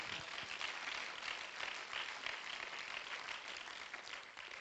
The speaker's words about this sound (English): Let's clap our hands to him again.